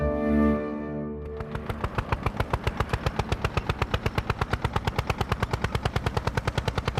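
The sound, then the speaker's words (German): A tractor engine chugs steadily, putting out fast, even pulses that run loud after a short sustained tone at the very start. No voices. “Mit dem Trecker.”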